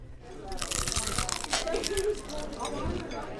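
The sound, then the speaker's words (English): A loud crunch as someone bites into fried chicken from Castelli's Restaurant at 255 in Alton, Illinois, crackly bursts of crispy breading over a few seconds with faint background chatter. “And with a crunch like that, who can blame him?”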